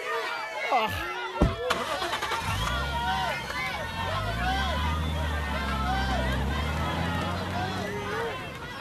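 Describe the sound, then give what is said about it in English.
A couple of sharp thumps, then a car engine turns over and settles into a steady, rumbling run, with a crowd of voices chattering underneath throughout. “Quick, get in the car.”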